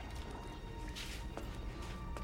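An old man drinks water laboriously while lying on a bench in a prison cell, with a few slow, wet swallowing and slurping sounds, fairly quiet over a steady background hiss and no talking.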